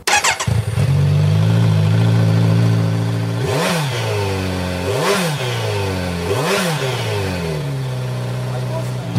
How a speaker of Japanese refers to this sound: もうこれはあのね、 Z900 はもう私たちの年代以上の方たちはね、もう憧れ状態のバイクですね。私も一度試乗させていただきましたけど、パワーがありすぎてあの650になりました、私は。 じゃあちょっとエンジンをかけていただいてよろしいでしょうか。 はい、かけます。